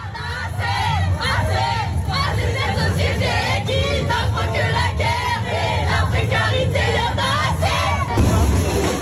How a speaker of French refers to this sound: Ce que vous entendez là, ce n'est pas le Brésil ni le Mexique, c'est Montpellier, où malgré la pluie, plus de 2000 personnes ont manifesté aussi ce dimanche 8 mars.